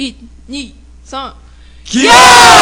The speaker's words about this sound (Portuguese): Não se preocupe que eu não sofri nenhum golpe, pessoal. Foi só um grito de encerramento de euforia.